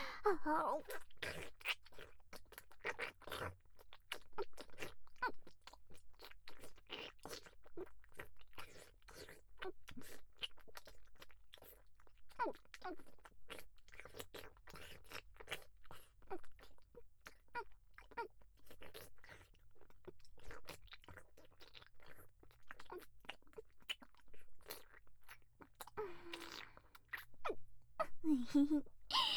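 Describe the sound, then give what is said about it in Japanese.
Continuous wet sucking and licking mouth sounds of a woman performing fellatio, a dense stream of small smacks and slurps with a loose, uneven rhythm. The sounds stay steady in loudness for the whole stretch. “だったら次こそ私が行かせるんだから、君の望み通りもっとじっくりしつこくフェラしてあげるわ。”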